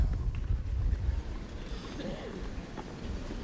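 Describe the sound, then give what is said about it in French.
Wind that has picked up further buffets the microphone during a tennis match with a steady, low rumble that swells and eases throughout, with a faint murmur of activity underneath. “Avec le vent qui s'est encore un peu plus levé.”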